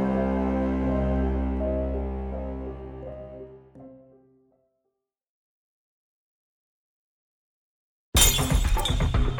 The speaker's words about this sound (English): The beer bottle shattered on the pavement of the half-empty parking lot.